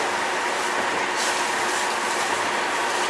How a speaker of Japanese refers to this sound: この列車は臨時列車のスターライト上野号上野行きです。次は高崎に止まります。次の高崎の到着5時18分です。